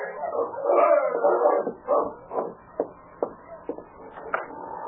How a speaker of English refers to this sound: Winter had again clamped its icy fingers on the Yukon Territory. The long nights were lonely ones for Dave, and his face lighted up with pleasure as he heard the sound of Sergeant Preston's dog team stopping at the cabin.